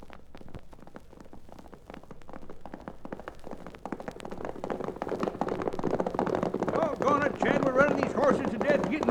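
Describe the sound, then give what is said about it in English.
Horses galloping as riders set off in pursuit of a man, a rapid, uneven patter of hoofbeats that builds steadily in loudness, with voices calling out over the second half. “Grab your horses. Let's get after him.”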